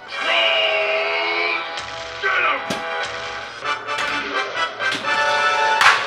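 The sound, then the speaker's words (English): A Medieval Madness pinball machine chiming and bleeping steadily, cut by a loud, sharp replay crack partway through as a player scores enough points for a replay or free game, followed by a few lighter knocks and clatters as the electronic tones carry on. “That cracking sound means Frankel had a solid game. She scored enough points to get a replay or a free game.”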